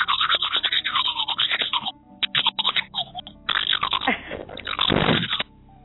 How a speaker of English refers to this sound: He's brushing his teeth. Hasn't that toothbrush been somewhere bad?